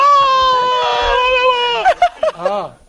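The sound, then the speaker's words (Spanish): A loud, sustained high-pitched scream played from a recording holds for almost two seconds, then breaks into a few short, sharp yelps before trailing off. “El grito es porque está viendo a Tamudo.”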